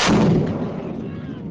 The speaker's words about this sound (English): At day's end, the surrounding valley echoes with deafening explosions as an Afghan tank continues to lob shells at Tora Bora.